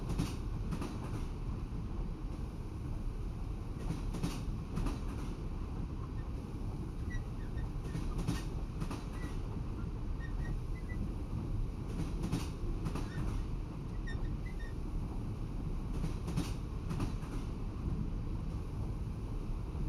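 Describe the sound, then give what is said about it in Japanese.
A train rolls along steadily with a constant low rumble and periodic clacking of wheels over rail joints, heard from inside the carriage, loud and continuous with no voices; the train is nearing its destination, shortly before braking. “そろそろ目的地です。ブレーキをかける瞬間ちょっと揺れますのでお気をつけくださいね。”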